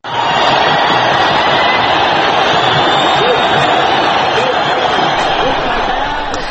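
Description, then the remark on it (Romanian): A huge crowd of tens of thousands of protesters in Cairo's Tahrir Square cheers, sings and chants "Egypt is free" after Hosni Mubarak's resignation: a dense, continuous roar of many voices with occasional shouts rising above it, staying loud and steady throughout. “Iar pe străzile din Cairo s-au auzit strigăte de fericire, s-a cântat și s-a scandat: Egiptul este liber.”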